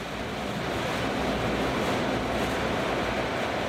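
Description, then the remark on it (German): A red-painted vertical hydroelectric turbine shaft in the underground machine hall of a pumped-storage plant, linking turbine and generator, spins ever faster up to its target speed, heard as a dense, steady rushing roar, with no voices and no pauses throughout. “Immer schneller dreht sich die Welle, bis sie ihre Sollgeschwindigkeit erreicht hat.”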